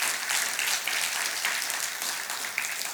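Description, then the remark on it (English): An audience claps hands together as praise to God, in a dense, sustained burst of applause, many overlapping crisp claps forming a steady wash of sound with no talking over it. “If that's you this morning, give him a hand clap.”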